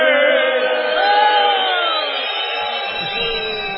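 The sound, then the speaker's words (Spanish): A dense concert crowd in Barcelona jeers continuously in protest, shrill whistles layered over a sustained roar of booing and shouting, loud for several seconds with no break. “Eso es, vamos a hacer ruido de disconformidad, sí, para que escuchen. Eso. Es esta una silbatina contra todo lo que nos molesta.”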